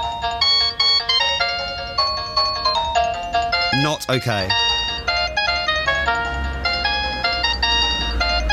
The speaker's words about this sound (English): I just wanted a standard, you know, like a standard doorbell. Instead, thanks to him, I've now got this every time someone rings the doorbell.